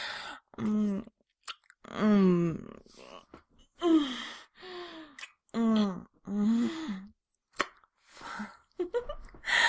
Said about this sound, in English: Oh, I see you're gasping again. God, there's something so sexy about that.